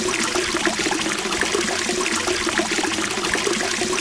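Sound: rushing water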